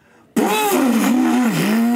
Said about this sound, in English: Pulls out a chainsaw. Cuts the bed in half and walks out.